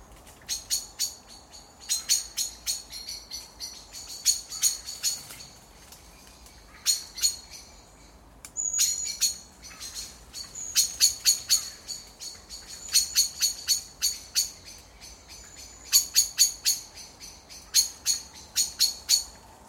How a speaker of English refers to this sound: And the evening competitions as blackbirds roost.